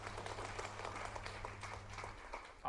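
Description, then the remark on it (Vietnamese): An audience gives a round of encouraging applause, dense overlapping claps at moderate volume for a few seconds, with a low steady hum underneath and no one speaking. “Cho một tràng pháo tay động viên.”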